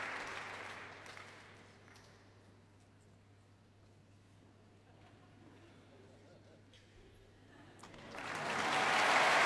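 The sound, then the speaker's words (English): Applause from the audience and members of the concert orchestra at the Albert Hall for a visiting group from the other side of the world, swelling at the start, fading to a low sustained patter through the middle, then building again into loud, dense clapping at the end. “And members of the concert orchestra joining in the applause for these visitors from the other side of the world.”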